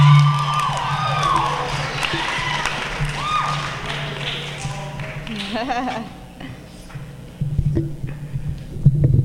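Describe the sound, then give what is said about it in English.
An audience at a campus poetry reading cheers and whoops loudly over dense clapping, fading briefly before another burst of applause and shouts near the end. “Just keep clapping, guys. Just keep clapping.”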